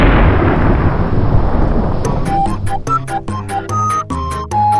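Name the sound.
thunder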